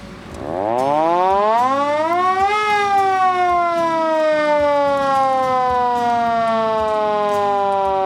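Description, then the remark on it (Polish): A loud mechanical siren on a 1962 fire engine winds up from a low growl to a high wail, then slowly sinks in pitch as it keeps sounding steadily, with no voices over it. “No i są dodatkowo na zwijakach węże o długości 120 metrów, węże sawne, no i syrena.”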